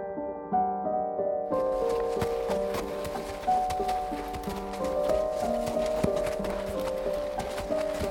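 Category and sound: animal, horse hooves clip-clopping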